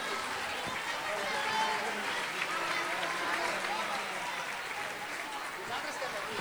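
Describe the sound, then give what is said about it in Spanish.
Sustained audience applause, a dense steady wash of many hands clapping at an even loudness throughout, with no pauses and no distinct voices standing out. The applause follows the announcement of a new anthem that everyone will sing together. “Un fort aplaudiment.”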